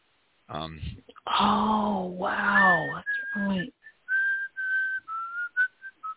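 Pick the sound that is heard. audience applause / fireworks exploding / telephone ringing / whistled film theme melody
whistled film theme melody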